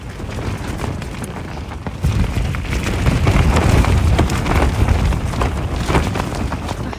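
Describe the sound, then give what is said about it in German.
Heavy rain pours down steadily and loudly at night, while gusting wind adds a deep rumbling roar that swells after the first couple of seconds. No voices, just the constant downpour. “Wir sind nämlich auch noch einmal in kompletten Regen gekommen.”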